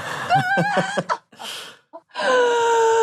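Close-up chuckling breaks off into a sharp, breathy gasp, followed after a brief pause by a drawn-out, falling vocal exclamation of surprise.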